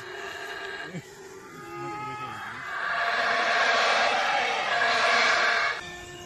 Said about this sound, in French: On a su juste le lendemain, c'est des singes hurleurs. On dirait du Jurassic Park.